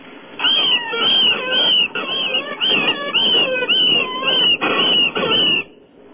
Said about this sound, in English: A guy has the sound of a fox attacking a rabbit.